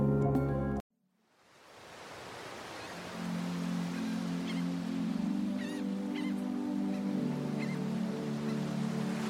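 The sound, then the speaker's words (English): After a brief burst of music and a moment of silence, a cat makes a few short, faint chirping sounds over a steady low hum and background noise, with no one talking. “Oh, the kitty!”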